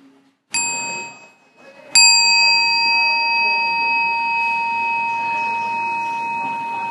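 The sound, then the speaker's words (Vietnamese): A mindfulness bell is struck twice, a brief first strike and then a fuller second one whose clear, bright tone rings on and slowly fades over several seconds, marking the start of the dedication of merit. “Mình nghe tiếng chuông xong chúng ta chắp tay bước sang thật đẹp để mình hồi hướng ha.”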